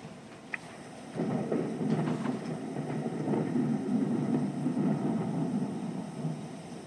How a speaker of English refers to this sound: The pitch black night rumbled with lightning while they were sleeping.